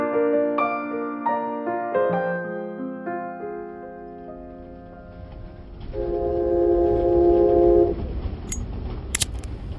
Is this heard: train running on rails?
yes